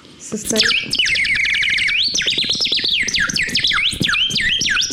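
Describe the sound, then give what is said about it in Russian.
A water-filled nightingale whistle toy called "Solovey" warbles continuously, a loud, high-pitched bubbling trill that rapidly wavers up and down like birdsong for about five seconds, with no talking. “Это такая реактивная игрушка, называется «Соловей».”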